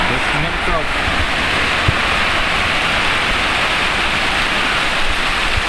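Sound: rain getting heavier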